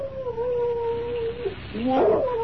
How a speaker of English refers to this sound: A dog. That's what I heard.